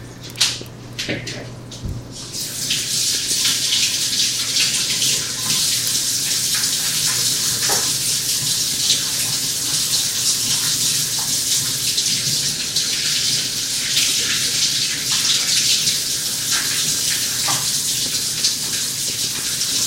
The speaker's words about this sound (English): So, I'm going to wash my hands yet again. Try not to touch things with raw meat hands. It's gross.